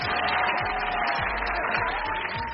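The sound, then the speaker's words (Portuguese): Dense, steady applause from a large crowd fills the space, with cheering mixed in and no pauses throughout. “Eu bem disse que iam haver muitas palmas esta semana.”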